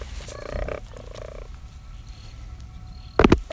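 Low, rasping croak-like calls sound early on, then near the end a quick cluster of three or four loud, sharp taps as birds peck directly at a phone.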